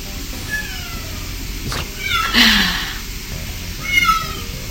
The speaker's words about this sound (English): My kitty cat.